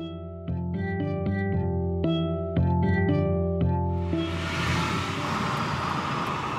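A car rolls along while running errands with a steady low rumble and a tonal hum, then loud, rushing wind noise from the open windows sweeps in and fills the cabin.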